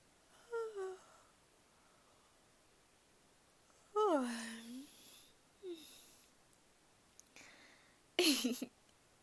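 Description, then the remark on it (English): A drawn-out voiced yawn sliding downward in pitch, framed by a few shorter breathy vocal sounds and ending with a sharp, noisy exhale; no speech. “Did I make you yawn?”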